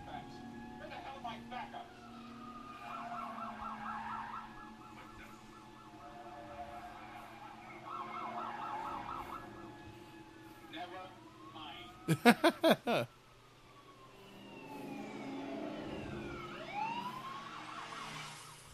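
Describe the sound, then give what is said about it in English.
An old-school police car siren warbles in two rapid bursts, with sharp honking blasts in between and a rising wail near the end, over low rumbling traffic noise. “Old school cop car.”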